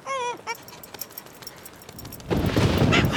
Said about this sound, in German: Ein Blitzeinschlag.